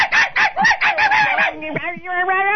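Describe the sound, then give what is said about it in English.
A person imitates a little poodle of about 11 pounds barking, producing a rapid string of shrill, high-pitched yelps that trail into a longer, wavering whine, loud and without other talk. “What the dog sounds like? Can you do an impression?”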